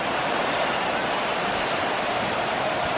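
hail falling

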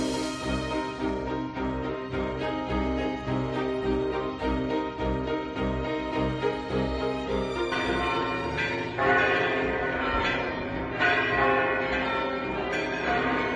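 cathedral church bells pealing

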